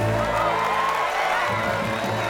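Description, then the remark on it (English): A steady hubbub of many voices chattering and murmuring together, a dense crowd mingling with no single speaker standing out, lively and continuous throughout. “The crowd mingles.”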